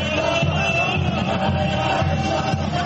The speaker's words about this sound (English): As the Sufis spin to the rhythmic chants of the crowd, they enter a kind of trance.